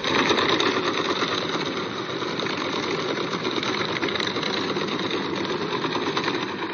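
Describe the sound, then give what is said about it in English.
A cargo ship moving at 20 knots: a steady, dense engine rumble with a fast, even throbbing pulse running through it. It stays loud and unchanging throughout, with no voices. “This upcoming sound is the sound of a cargo ship moving at 20 knots, courtesy of Thomas R.”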